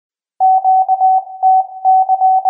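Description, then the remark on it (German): A steady, mid-pitched Morse code tone keys on and off in quick groups of short and long beeps, sounding the new gender asterisk of a gendered Morse alphabet, clean, with no voices or background noise. “Die Gemeinschaft der Funkamateure ist gespannt, wie schnell das gegenderte Morsealphabet nun auch auf den Bändern zu hören sein wird.”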